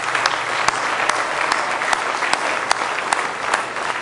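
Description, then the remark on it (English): An audience claps their hands together in praise of the Lord, a steady, dense wash of applause with a few sharper individual claps standing out, sustained and fairly loud throughout without voices. “Let's give the Lord a good hand clap of praise tonight if you love Him.”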